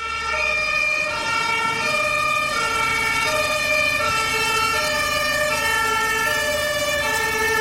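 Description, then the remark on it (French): A fire engine's two-tone siren blares loudly as firefighters arrive, alternating steadily between a high and a low pitch several times, with a faint rumble of traffic beneath and no voices. “Les pompiers arrivent.”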